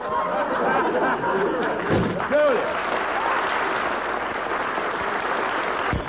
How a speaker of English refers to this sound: How you like that? Slam the door right in our faces.